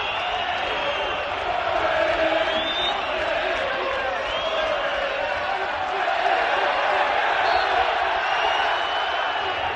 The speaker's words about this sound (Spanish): jugador del Athletic de Bilbao, cuando se había retirado y estaba marchando por la banda del estadio, ha recibido, entre ánimos de la afición del Español a su equipo, gritos racistas, esos que se escuchan de fondo en Cornella, que son el UU famoso.